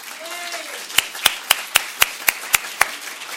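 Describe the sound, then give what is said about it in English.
An audience at a New York Public Library event applauds Norton senior editor Bob Weil. The applause starts as a run of eight crisp hand claps, evenly spaced in a steady rhythm, each one sharp and fairly loud over a soft background hiss. “So a huge round of applause for Bob Weil.”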